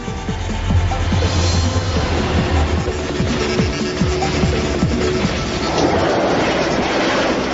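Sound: high-speed train passing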